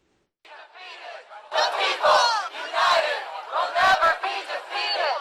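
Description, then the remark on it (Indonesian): A large protest crowd at a Saturday demonstration in Boston, supporting diversity and denouncing white nationalists, shouts loudly in unison, with rhythmic chanting bursts and overlapping voices from start to finish. “Dua aksi demonstrasi pecah di Boston hari Sabtu.”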